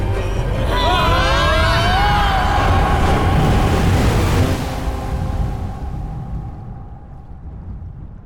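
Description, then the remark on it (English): A huge ocean wave crashes over a boat in a loud, sustained roar with shrill whistling and creaking tones, then the rush slowly fades into a duller, muffled rumble. “It rose up over us like a skyscraper of water. And then it hit.”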